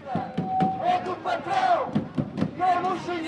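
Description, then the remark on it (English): A loud crowd of college students at an anti-austerity street protest in Lisbon shouts and chants together, voices overlapping in rising cries with some sustained yelled tones, continuous and energetic throughout. “A crowd of college students showed up at an anti-austerity protest last month in Lisbon, complaining that the economy may force them to quit school.”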